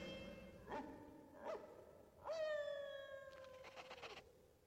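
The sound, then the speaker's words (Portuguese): Faint dogs call out an alarm by moonlight: two short, separate barks, then a longer drawn-out howling bark that trails away. No one speaks. “Agora está em nossas mãos. O latido ao luar.”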